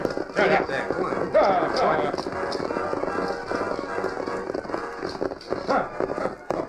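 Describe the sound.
A herd of stolen horses gallops as two riders, Howling Bird and Whitey, herd them away, hooves pounding in a dense, continuous rumble, with indistinct voices and brief whinny-like cries mixed into the commotion.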